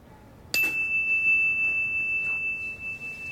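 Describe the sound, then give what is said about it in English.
A single bell is struck once for a mindfulness listening exercise, with a sharp attack. Its clear, steady tone then rings on and slowly fades, sustaining alone without any talking. “A bell. We're going to listen. And when the bell stops, when you can't hear it anymore, raise your hand.”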